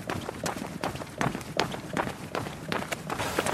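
Steady running footsteps of someone jogging at an average pace of about 14 km/h, a quick regular rhythm of soft thuds and scuffs, roughly three strides per second, with no talking.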